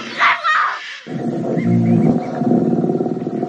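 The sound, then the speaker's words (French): A brief high-pitched cry gives way to a huge, deep roar from King Kong in the 2005 film King Kong, loud, rumbling steadily for about two and a half seconds with no talking. “Voilà King Kong qui aime la chair fraîche, King Kong version 2005.”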